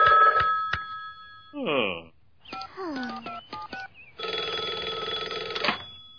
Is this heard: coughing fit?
no